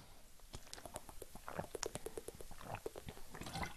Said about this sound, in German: Hoppala, ich muss einen Schluck Wasser trinken, ihr Lieben.